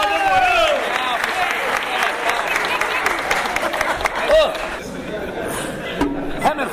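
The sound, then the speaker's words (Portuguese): An audience applauds loudly and steadily, a dense wash of clapping with cheers and excited voices mixed in, sustained throughout before easing slightly near the end. “massagem de palmas”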